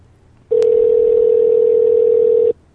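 A steady telephone dial tone hums for about two seconds, loud, with a faint click near its start, then cuts off abruptly as a phone call to Las Vegas is placed. No one speaks.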